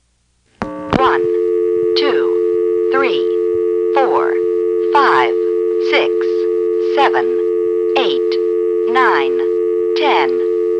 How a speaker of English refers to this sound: let's pick up the phone and let it time out, and while we're at it, let's count how many seconds the dial tone is going for